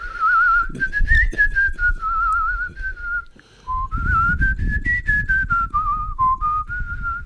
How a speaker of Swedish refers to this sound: Det är väldigt sällan, det är väldigt, jag tycker det är intressant att vi tre sitter och, att vi sitter och visslar, för att det är väldigt sällan som man visslar i grupp, eller vad säger man? Det är väldigt ovanligt.